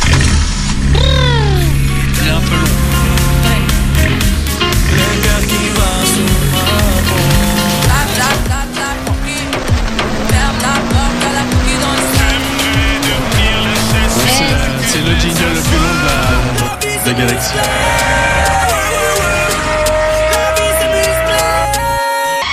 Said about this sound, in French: C'est une voiture qui fonce dans un mur.